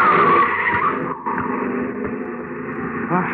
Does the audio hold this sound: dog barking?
no